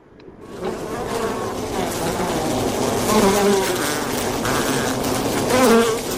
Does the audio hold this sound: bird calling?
no